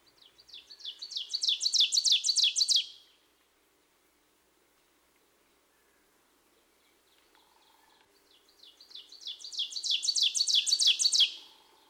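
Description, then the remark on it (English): An ovenbird, a warbler, sings from a low perch in the forest understory: two bright, rapid series of repeated two-note "teacher" phrases, each building in loudness toward its end, separated by a pause of near silence. No one speaks. “Another warbler with a two-noted vocalization is the oven bird.”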